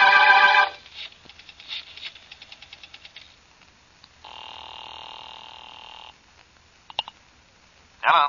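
A telephone is dialed with a run of quick clicks, then a steady electronic ring tone sounds for about two seconds, followed by a click as the line connects. No one speaks.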